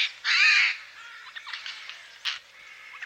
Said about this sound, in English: Jay.